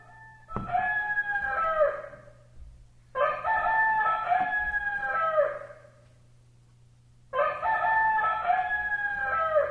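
A rooster crows three times in a row, each loud, drawn-out cock-a-doodle-doo lasting about two seconds with brief pauses between, over a low steady background hum.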